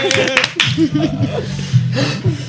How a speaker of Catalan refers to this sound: Home, ara fem venir públic perquè ens aplaudeixi en lloc de posar públic. Aplaudiments enllaunats.